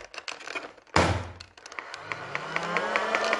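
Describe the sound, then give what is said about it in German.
An electric Nerf blaster fires a single dart with one sharp thunk, followed by a rising motor whine and a steady run of quick mechanical clicks. No one speaks. “Toll, Nerf. Ja, dann mache ich mal kurz drei Schüsse auf einmal. Nee, zuerst ein Schuss.”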